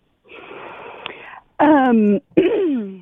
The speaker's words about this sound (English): because she's clearing her throat, she has something.